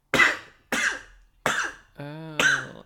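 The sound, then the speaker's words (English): Four sharp, explosive sneezes that sound much like coughs, spaced evenly, with a brief voiced sound just before the last one. “Oh my god, it sounds like a cough.”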